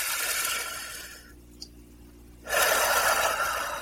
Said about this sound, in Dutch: pak een ademhaling diep in en doe dat 3 keer achter elkaar.